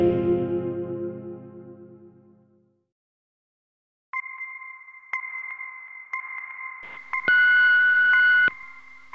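telephone dialing tones

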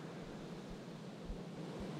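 ocean waves

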